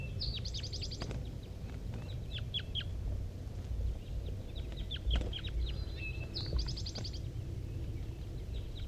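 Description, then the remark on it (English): Wild birds call repeatedly over a steady low rumble as more arrive, a flock coming from the bottom of a hollow: quick high trilled bursts and sharp descending chirps, some clustered in rapid series, recurring throughout at moderate loudness with no talking. “More wild birds are coming around.”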